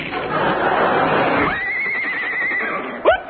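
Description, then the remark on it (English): A horse neighs after a moment of rustling noise: a long, high, steady whinny that ends in a quick wavering drop in pitch, clear. “I'll just write you a check on the side of this horse.”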